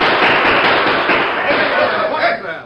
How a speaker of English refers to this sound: Suddenly, there was an outburst of shots above his head and that of the crowd.